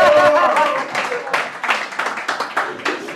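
Audience clapping: a burst of many overlapping, irregular claps that carries on steadily for about three seconds, with some voices mixed in at the start.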